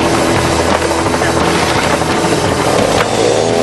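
A chainsaw engine roars into life as a team starts cutting through a log, holding a loud, steady, buzzing drone with a low harmonic hum underneath, running continuously with no voices.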